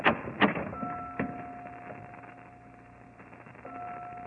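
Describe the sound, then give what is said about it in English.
A few sharp knocks and clunks of a door latch, followed by a long, steady creak as a heavy door into a bell tower swings slowly open, fairly quiet, with no voices. “Here, Watson, through this door. The only way to get into the bell tower.”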